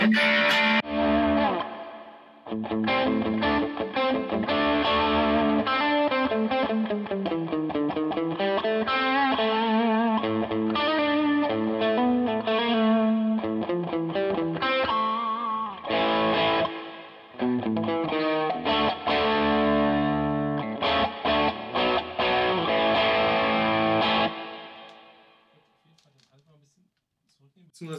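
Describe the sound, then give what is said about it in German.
A distorted electric guitar, played through boost and distortion pedals including a Rat pedal, set to not very high gain, plays a loud, sustained passage of chords and melodic runs with heavy overdrive and effects, fading out near the end. No one talks over it. “Du kannst halt so ein bisschen boosten noch. Ne, mit da oben ist noch die Ratte und den Ullstream.”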